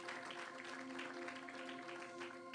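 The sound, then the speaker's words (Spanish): An audience applauds steadily at a night church gathering to welcome visiting pastors, a dense wash of many hands clapping at once, with a sustained musical tone or organ chord humming underneath throughout. “Démosles un aplauso a ellos esta noche.”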